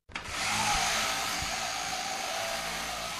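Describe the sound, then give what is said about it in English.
Electric shears start up on Sean, a matted Merino sheep getting his first ever shearing after six years, at a farm in the Tasmanian Midlands, holding a steady, loud, hissing motor whir for a few seconds, unbroken and even in tone, with no voices. “After evading the shearing shed for 6 years, it was finally time for Sean to get shorn.”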